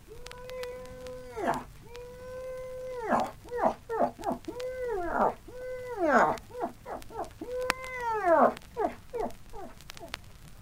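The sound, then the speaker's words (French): A voice imitates a plaintive female animal mating call, plaintive call number 4, used to lure a male: repeated long, steady wails that break into short rising and falling whines and yelps, mid-pitched and fairly loud, with no speech. “Quand le mâle s'arrête en chemin, qu'il résiste à l'appel, il faut absolument l'agacer davantage, car ce cri plaintif numéro 4 l'attirera sûrement.”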